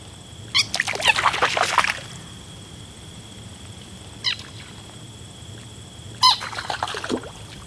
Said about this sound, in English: For instance, if one walks along the edge of a farm pond during a warm summer day, green frogs will leap from the shoreline in alarm, squeaking loudly in midair before splashing into the water.